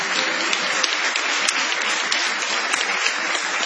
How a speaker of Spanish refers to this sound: Gracias por haberse asomado a este humilde galponcito. Vamos a extender la ovación para honrar a Patricio Barton.